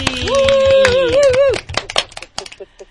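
round of applause

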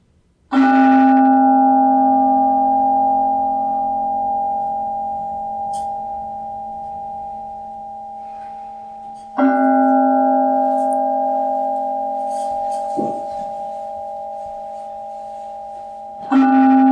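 bell ringing and fading

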